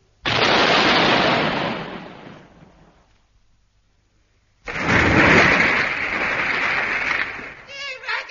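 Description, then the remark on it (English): Two loud cannon blasts fired as a salute, a few seconds apart. The first booms and fades slowly into a long rumble; the second hits just as hard and roars steadily for several seconds. “Where's that naughty little powder monkey gone? It's time to fire a salute.”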